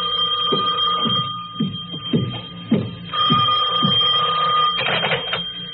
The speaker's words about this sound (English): I walked back to my office in a daze. My substitute secretary hadn't come in yet, but my phone was ringing.